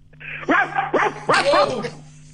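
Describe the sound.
A person sitting in an office imitates a big dog with three loud barking sounds in quick succession, each a gruff voiced bark with a low hum running underneath.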